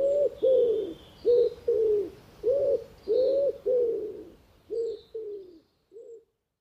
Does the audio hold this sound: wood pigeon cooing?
yes